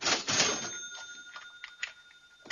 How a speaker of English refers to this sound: A noon bell tolls at the Colorado School of Mines. It's a state research university outside Denver.